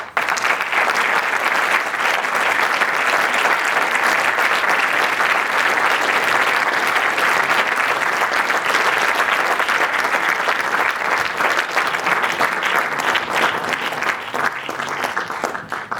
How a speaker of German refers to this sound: Einer von ihnen, der wirklich nur einen ganz kleinen, kurzen Auftritt hat, umso größerer Applaus bitte